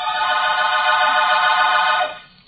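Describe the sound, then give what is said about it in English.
A telephone rings once in a steady, buzzy burst lasting about two seconds as a call is placed to Watson Studios, then quickly fades out. The ring is fairly loud, with a thin, narrow-band quality, and nothing else is heard. “Then I called Rembrandt on the phone.”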